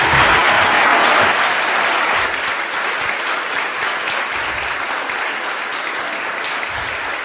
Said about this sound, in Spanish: Fuerte el aplauso para recibir al doctor